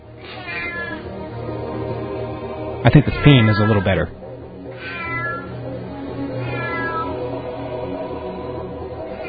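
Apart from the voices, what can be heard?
cat meowing sound effect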